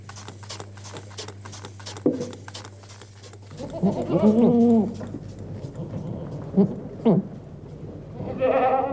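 Goats bleat repeatedly during milking, several overlapping cries rising and falling, with rhythmic clicking and a steady low hum in the background; from the 1989 recording by an artist.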